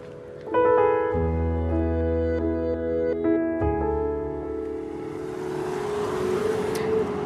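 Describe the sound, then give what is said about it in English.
A car engine hums steadily, its tone shifting as it moves, then a broader whoosh of traffic rises as vehicles pass through the open car park of a BP and Caltex service station. No one speaks. “We won't stand in the middle of the car park while we do that, just in case.”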